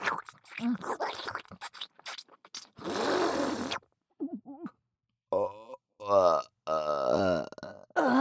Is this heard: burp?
yes